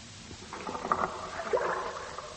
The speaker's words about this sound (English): The sound of their oarlocks, striking the steep walls of the deep fjord, echoing and rebounding over the water, still lingers here in the coastal mountains of Greenland.